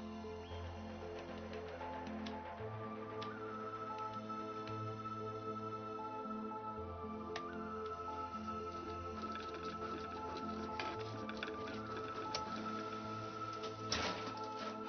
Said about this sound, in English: The letter emerges slowly from the printer.